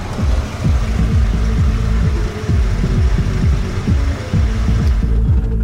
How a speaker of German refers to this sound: Also beim M5 ist das Gesamtergebnis der Akustik zum Teil vom Motor und zum anderen Teil über das Entertainment-System erzeugt worden. Das nennen wir Active Sound Design.